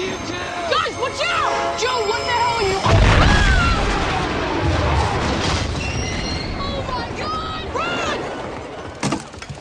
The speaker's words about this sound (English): Well, that's the sounds of the train exploding.